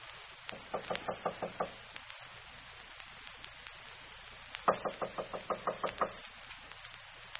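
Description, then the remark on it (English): Two bursts of firm, rapid knocking on the door of apartment 5A, each about seven raps in quick succession, separated by a pause of a few seconds, with a low steady hum underneath and no voices. “I'll knock.”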